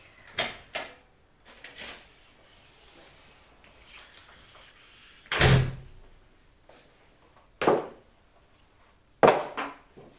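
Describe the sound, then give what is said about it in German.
A front door opens with a soft scraping rub as a woman comes home, then a few sharp thuds land spaced apart as she flings her shoes off her feet just inside the door. No one speaks. “Mama kam nach Hause und schleuderte gleich hinter der Tür ihre Schuhe von den Füßen.”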